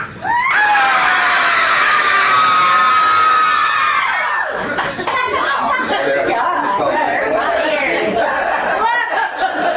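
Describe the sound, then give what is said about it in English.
A crowd lets out a loud, sustained group scream on a count of three, lasting about four seconds, then it breaks into scattered chatter, laughter and cheering that carries on through the rest. “Could we get a little scream on the count of three?”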